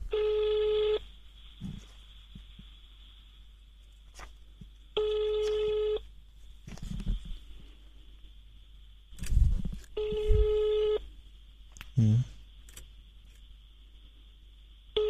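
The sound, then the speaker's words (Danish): An outgoing phone call's ringback tone repeats in three steady, evenly spaced bursts of about a second each, with faint background noise and a few soft clicks between them. “Skal vi ringe på den der så?”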